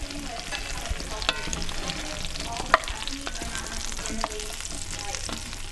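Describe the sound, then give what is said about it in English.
Fingerling potatoes sizzle steadily in a hot Dutch oven in a company's spacious office kitchen in Fayetteville, a dense, continuous crackle and hiss with scattered sharper pops and clicks, fairly loud, with no voices. “The company's office includes examples of beautifully decorated rooms, as well as a spacious kitchen where it's not unusual to hear the sounds of avocados being chopped or fingerling potatoes sizzling in a Dutch oven.”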